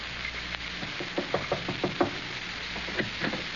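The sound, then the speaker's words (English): A quick series of knocks on a door in a house, six or so in a steady rhythm, then a couple more after a short pause, with faint background hiss and no voices. The knocker is identified as the character Irene. “Opportunity never stops knocking in this house.”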